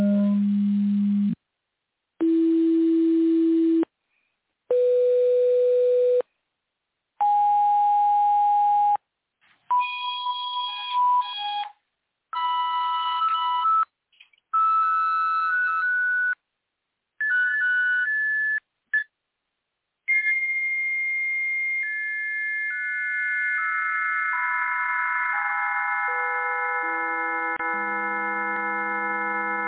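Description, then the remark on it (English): The original chirp signal, an electronic signal: short, pure beeping tones rise in pitch step by step with brief gaps between them, then one long unbroken tone steps steadily back down. No voices. “So this is the original chirp.”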